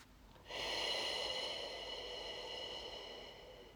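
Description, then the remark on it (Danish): A single long, breathy exhalation pushed out through the mouth during a breathing exercise, emptying the lungs, starting abruptly and holding steady for about three seconds before tapering off. Fairly loud, with no talking. “Så når du ånder ud, så lader du luften forsvinde helt ud af dine lunger, mens at du giver slip.”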